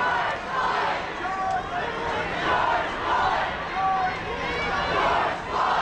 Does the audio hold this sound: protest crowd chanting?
yes